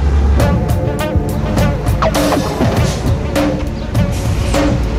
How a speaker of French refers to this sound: On a décrit le paysage en hauteur, on a le nez dans les nuages, mais au ras du sol, très concrètement, il y a trois camions italiens qui viennent de passer. Il y en a un quatrième qui passe, un cinquième derrière.